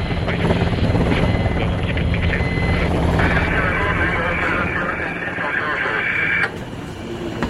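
A jet aircraft lands on the deck of the aircraft carrier Charles de Gaulle, catching an arresting wire and stopping from 250 km/h to zero in under 100 meters, with a loud, continuous engine roar. A high-pitched whine joins midway and holds steady, then the roar drops off abruptly near the end.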